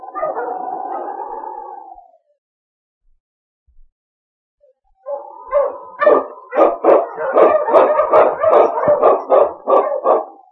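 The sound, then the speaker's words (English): A dog, Yukon King, the wonder dog of Sergeant Preston, lets out a drawn-out howl, then after a pause breaks into a rapid, steady run of loud barks lasting several seconds, with no one talking. “With Sergeant Preston and his wonder dog, Yukon King, battling through storm and snow as they meet the challenge of the Yukon.”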